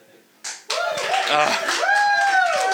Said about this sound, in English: Is that all I have to say to get applause? Okay, eat cake! Eat cake! That guy gets it.